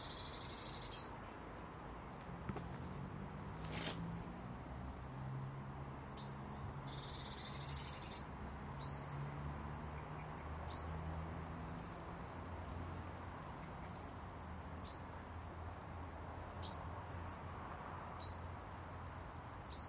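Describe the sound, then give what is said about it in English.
A tiny coal tit gives shrill, high-pitched chirps, short single notes repeated at uneven intervals over a steady wash of background noise, with no voices. “I love a wee cold tit you hear with that shrill chirp. Tiny wee birds.”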